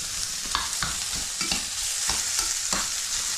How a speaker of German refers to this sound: Und dann kann sich das hier nämlich schon mal ein bisschen anbraten.